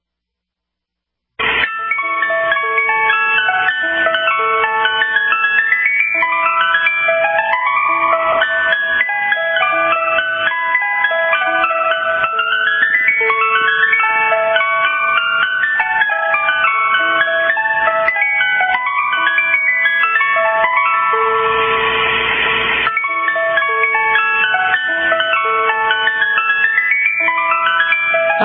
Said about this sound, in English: Sound of the ice cream truck. You know it.